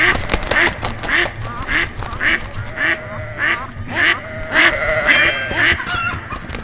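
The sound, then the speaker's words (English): A rapid series of loud, nasal duck quacks repeats in quick bursts throughout, fairly steady in rhythm, with no talking over them. “I'm sure I will hear one soon because they scare me every time they make that I'm running away noise.”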